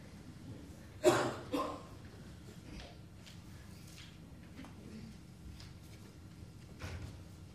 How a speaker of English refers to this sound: The door. Please close the door.